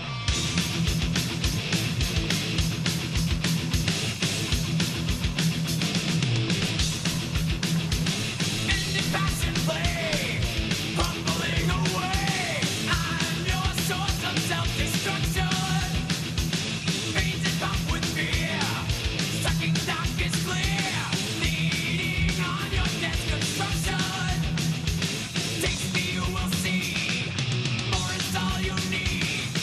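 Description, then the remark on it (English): Loud electric heavy metal music plays without a break for about thirty seconds, a dense wall of distorted guitars and pounding drums at a steady, driving intensity, with no one talking over it. “Here they come with rip-roaring sound, the rip-roaring electric sound.”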